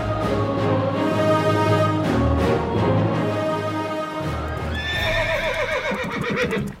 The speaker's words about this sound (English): Suddenly, there is the sound of many horses. The Black Knight and his men ride into the castle.